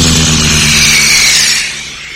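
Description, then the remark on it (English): A small propeller crop-dusting plane drones overhead with a steady, buzzing engine and a loud hiss, then the roar eases off and fades toward the end. “There's a crop dusting plane due over any second now to shoot hairspray all over the wig.”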